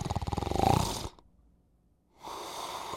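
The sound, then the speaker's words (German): A loud, rattling snore with a rapid vibrating buzz, then about a second of silence before a long, rough breath resumes. “Und wenn die Erschlaffung oder der Rachen noch enger ist, weil die Zunge einfach viel zu hoch und viel zu weit hinten liegt, dann kommt es nicht nur zur Engstellung des Rachens und zum Schnarchen, sondern zu einem kompletten Atemstillstand.”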